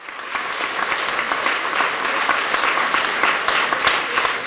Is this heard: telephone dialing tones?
no